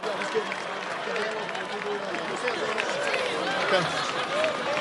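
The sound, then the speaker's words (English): A large crowd of Broncos fans roars and cheers for the Broncos NFL team at a celebration of their win, continuously, a dense, steady wash of many voices with scattered higher shouts rising above it, loud throughout with no single speaker standing out. “So with that, let's give it another roar for the Broncos, the greatest team in America.”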